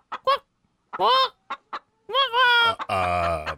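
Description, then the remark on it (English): A person imitates the call of a hungry chicken, starting with a few short, choppy clucks and building into longer, strained squawking calls, fairly loud. “To hear, you want to hear, if you're a chicken? Okay, go. If you're hungry, it's like this.”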